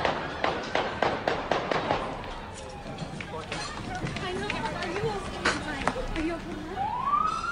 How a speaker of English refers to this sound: A lot of gunshots going off right there at the intersection of 14th and Riggs Street Northwest. Pedestrians everywhere. Diners go scrambling for safety.